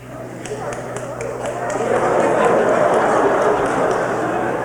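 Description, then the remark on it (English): A crowd of people imitate seal barks all at once, a dense, noisy swell of vocal yelps and honks that grows louder partway through and stays boisterous. “Now everybody bark like a seal.”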